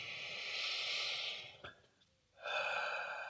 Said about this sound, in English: Start by taking a few deep breaths, breathing in through the nose and out through the mouth.